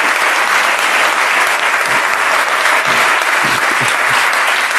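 A crowd claps steadily and loudly for several seconds, a dense, even wash of many hands with no voices standing out.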